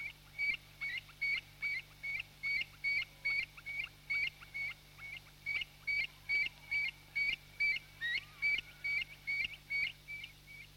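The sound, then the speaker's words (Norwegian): A common redshank, a breeding wader with long fiery-red legs, calls at Fokstumyra in Norway, a rapid, insistent series of sharp, piping notes repeated about twice per second without pause, loud against a quiet outdoor background. “Dessuten bråker det mest av alle vadefuglene, særlig når den synes at fremmedfolk kommer for nær.”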